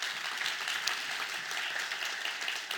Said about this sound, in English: yeah, you can clap.